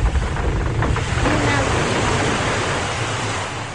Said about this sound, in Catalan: L'onada, corrent cap a la terra, va caure damunt la platja i amb un soroll horrible. Una altra onada.